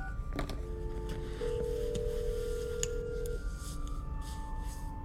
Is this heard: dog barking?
no